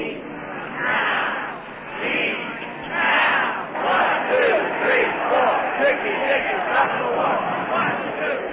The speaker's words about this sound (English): There were mostly young persons, and they marched. They called their march a march against death. It was part of the second moratorium day, November the 15th, 1969. In Washington, D.C., they marched, they chatted, they sang. It sounded like this.